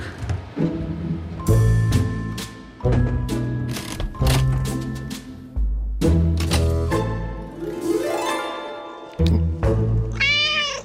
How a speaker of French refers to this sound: Voilà les chats de Nathalie qui adore jouer les sentinelles sur son balcon à Montreux